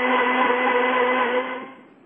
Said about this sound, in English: You know, we can hear that blender.